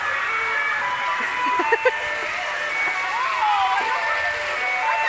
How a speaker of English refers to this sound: Hey, an ice cream truck is approaching.